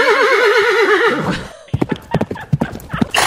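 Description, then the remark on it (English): A loud, close horse whinny with a wavering, trembling pitch, followed by a quick burst of rhythmic hoof clip-clops and snorting. “There's your high horse blow right there.”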